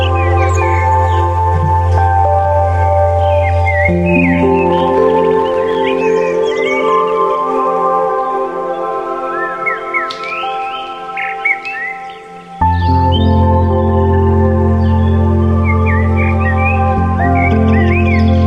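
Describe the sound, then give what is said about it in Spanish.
Birds chirp and tweet in quick, high bursts throughout, layered over a steady, sustained low tonal drone that briefly thins out before swelling back, with the sigh of a distant river's water and a rooster. No one speaks. “Suena allá lejos el suspiro del agua de un río, unos pájaros, un gallo, unas risas.”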